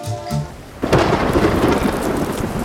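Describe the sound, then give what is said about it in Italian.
A moment of music gives way to a sudden, heavy downpour, with steady rain hissing loudly over a deep rumbling undertone until the end. “Beh, dovevamo prenderci questo po' di pioggia insieme agli abitanti della Quercia, dai.”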